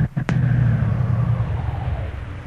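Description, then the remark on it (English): A car engine rumbles low and steady, with a couple of sharp jolts near the start like wheels bumping over a rough surface, then a continuous droning ride that slowly fades. “This road's pretty bad. Is that the shack up ahead?”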